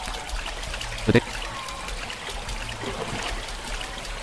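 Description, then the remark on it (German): Water pours steadily into a pot with a continuous trickling rush as the pot is filled until no more water fits, broken by a brief louder clunk early on, and a faint voice murmurs in the background. “Muss ich nur einmal auf den Pot drücken, damit er voll ist? Nein, nee, mehrmals.”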